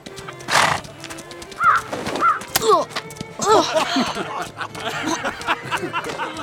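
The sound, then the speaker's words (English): A bird calls repeatedly with a series of bright, warbling chirps and squawks. A brief rushing burst comes early, and faint background noise continues throughout. “I think that bird likes you.”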